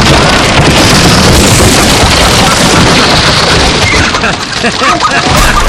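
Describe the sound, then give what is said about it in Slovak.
A wooden model structure built of nailed boards collapses in a long, loud, dense crash of tumbling, clattering timber and deep booming rumble that barely lets up, with a brief dip before the racket swells again. “Nebeská stavba sa zosypala a my sme sa pritom tak rozosmiali, že sme sa museli zohnúť, akože zbierame drevo.”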